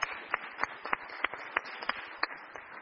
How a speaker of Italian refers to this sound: Io direi che possiamo fare un applauso per augurarle un roseo futuro.